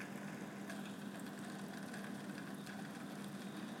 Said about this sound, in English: It was a bit louder before my fridge turned itself on, right when I pressed record.